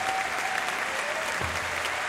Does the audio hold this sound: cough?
no